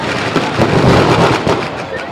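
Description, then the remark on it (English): Loud, continuous crackling of fireworks and firecrackers being lit in the middle of a crowd filling a smoky street on a festive night, with a dense rattle of pops and several heavier bursts standing out, and faint voices mixed into the din. “Well, everybody else is lighting them in the middle of the crowd, but I guess we could...”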